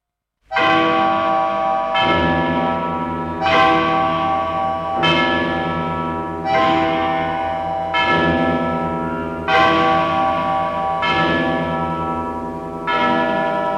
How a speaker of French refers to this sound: Cloche de Notre-Dame à Paris, qui sonnait les glaces et les carillons, qui sonnait la joie et la peine.